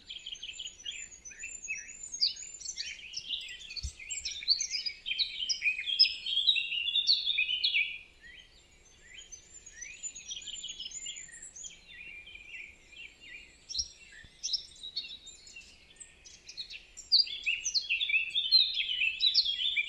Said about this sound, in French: Ici, 3 phrases d'une fauvette à tête noire.